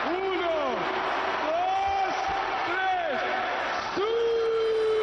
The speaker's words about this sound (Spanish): Este es el grito de guerra famoso de Cristiano y ahora todo el Bernabéu coreándolo de Balón de Oro.